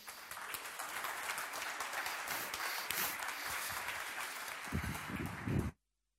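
A crowd applauds steadily for several seconds, a dense wash of many hands clapping close by, swelling slightly near the end before stopping abruptly.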